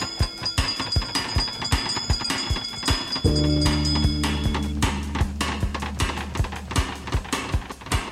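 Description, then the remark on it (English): A bell rings with quick, steady strikes and a bright, lingering high tone for about eight seconds, with a deep droning hum swelling in briefly partway through. No one speaks. “wherever you dwell, give us a hint by ringing a bell.”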